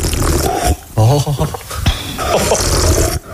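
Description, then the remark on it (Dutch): Loud, wet slurping of soup, such as vegetable soup, by someone eating beside you at the table, rendered by a voice: noisy sucking bursts broken by a short throaty, voiced gurgle in the middle, filling the whole few seconds with little pause. “Ik heb dat met mensen die slurpen, weet je.”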